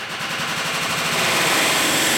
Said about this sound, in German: Hier wird das Innere eines Airbus zerlegt. Dresden, die Elbe Flugzeugwerke.